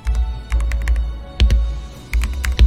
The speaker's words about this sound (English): This is the problem of using a new keyboard. It's you have to get used to the layout. I touch type, so my fingers are all in the wrong place. Anyway, tippy tappy type.